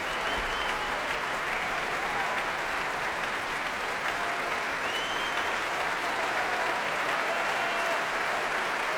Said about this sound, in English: Feet stamping, slow hand clapping to urge him back once again onto the platform, and here he comes. Lars Vogt alone this time.